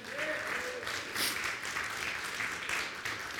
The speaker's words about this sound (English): Go ahead and give him a hand clap.